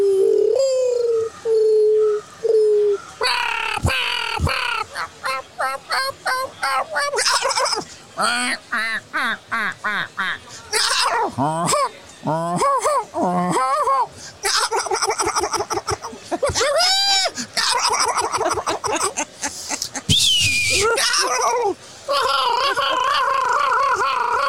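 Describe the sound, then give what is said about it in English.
A dense chorus of sandhill crane calls, many rolling, rattling bugles overlapping continuously from a large flock, loud and steady throughout. “Sandhill cranes, you got to be in Nebraska for that.”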